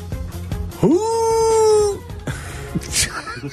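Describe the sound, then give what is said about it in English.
A person imitates an owl with one drawn-out hoot that swoops up and holds a steady pitch for about a second, followed by brief murmuring and clatter, on the ESPN 1000 sports radio show. “What's that owl sound like?”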